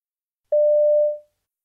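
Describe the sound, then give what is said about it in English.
A single steady electronic beep of a telephone answering service sounds clearly for under a second and then tapers off into silence. “You hear a message on a telephone answering service.”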